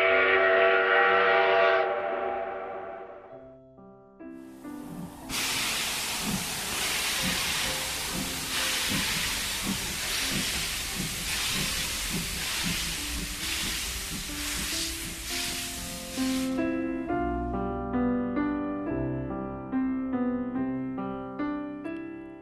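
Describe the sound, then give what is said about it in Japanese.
A steam train whistle sounds in steady harmonic tones, then a loud burst of hissing steam pulses rhythmically for about eleven seconds before the whistle returns with chugging beneath it. No one speaks. “歯を食いしばりながら駆け出し、汽車に乗りました。”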